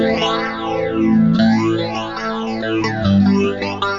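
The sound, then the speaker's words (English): An electric guitar rings out through a phaser pedal on a pedal board, its sustained tone swept by slow, whooshing phase cycles that rise and fall about three times. Loud, with no talking. “Nice phaser.”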